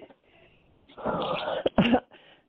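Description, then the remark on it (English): Loud breathing rushes straight into the microphone: a long airy inhale followed by a sharper, forceful exhale, then a faint breathy tail. No one speaks. “I'm probably doing Michael Darth Vader thing right now”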